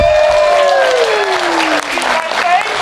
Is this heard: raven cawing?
no